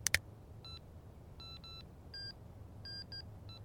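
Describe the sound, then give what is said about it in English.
A couple of sharp clicks, then about seven short electronic phone dialing tones in an uneven, keypad-pressing rhythm, fairly quiet over a low background hum, with no talking. “Grab my phone and call Bobby.”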